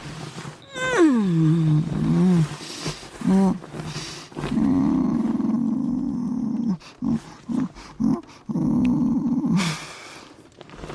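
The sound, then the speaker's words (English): A person imitates a cat, growling and yowling, starting with a rising-falling wail, then a long rumbling growl broken into short bursts, loud with no other talk. “You activated the inner cat, it's not my fault.”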